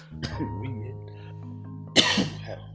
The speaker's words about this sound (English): Get that good cough out.